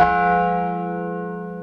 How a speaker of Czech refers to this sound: Podařilo se nám, že se do toho obnovy zvonového souboru zapojilo největším zvonem také město Zábřeh, který pořídilo zvon, který byl zasvěcen svatému Bartoloměji, váží 1070 kg a ladění toho zvonu je fis.